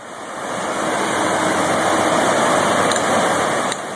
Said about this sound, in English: That is sound from YouTube of the Missouri River rushing along.